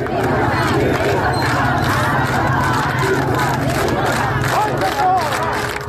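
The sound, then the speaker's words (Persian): A large crowd of mourners shouting together at the burial of a young woman, Nika, in Iran, a dense, continuous roar of raised voices with overlapping cries and chants, loud and steady throughout. “صدای دیگر اما فریادهای مردم شرکت کننده در مراسم تدفین این دختر جوان بود.”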